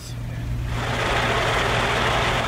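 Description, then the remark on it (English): Grain trucks lined up at a ranch outside Meridian, Idaho, idle with a steady, low engine rumble, and a broad roar of motor noise swells in after the first moment and holds evenly throughout. “We had a chance to stop by the Big D Ranch outside of Meridian, where the grain trucks were lined up”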